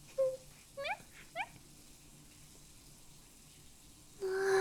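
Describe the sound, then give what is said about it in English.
Warm tap water pours steadily and fast into a filling bathtub with a soft, continuous hiss. A few short squeaky rising tones come early, and the rush grows suddenly louder near the end. “It's filling up so fast, sir. And the water's just like... warm and nice.”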